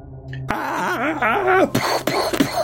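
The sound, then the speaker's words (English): A man lets out a loud, drawn-out angry scream that wavers up and down in pitch for about a second, followed by three short, harsh vocal bursts. “Although I think that scream is probably enough to attract our attention to the fact he's losing his shit.”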